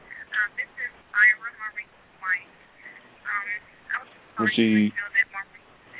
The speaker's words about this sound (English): I'm sorry, I got another phone call coming through my ear.